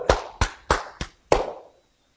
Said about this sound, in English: Yeah, the Baptists can clap. And they can shout for that stuff.